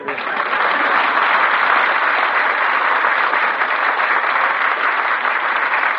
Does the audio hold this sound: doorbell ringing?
no